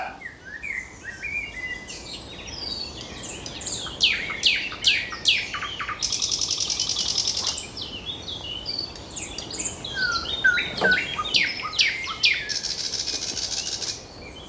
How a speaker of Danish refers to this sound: Jeg ved ikke, om du kan høre det. Nå, det er nattergalen. Yes, præcis. Oh. Kæft, der er knald på ham, hva'?